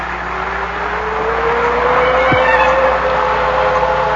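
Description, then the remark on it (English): A car drives steadily along, its engine humming in a continuous drone over rushing road noise, the motor pitch slowly climbing as it goes. No voices are heard. “With every mile, the car brought me closer to reunion with someone who no longer existed.”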